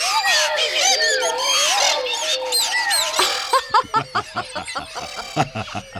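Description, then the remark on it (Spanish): Many large birds make a dense chorus of loud calls, squawks and clucks overlapping for a few seconds, then breaking into sharp, choppy bursts with some chattering, laugh-like sounds mixed in. “Sí, muchos pajarracos.”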